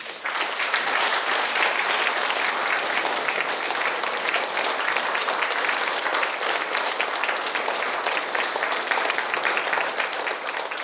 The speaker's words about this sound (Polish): Pięknie dziękujemy. Ja chciałbym bardzo gorąco podziękować naszym wspaniałym gościom i wielkie brawa.